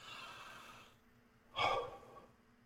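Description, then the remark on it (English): A breathy, rasping exhale followed by a brief pause, then one short, harsh cough burst, moderately quiet, with no talking, after inhaling smoke from a cannabis concentrate dab. “I should probably stop talking until I finish coughing.”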